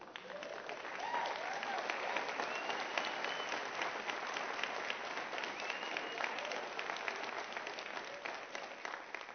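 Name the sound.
audience applauding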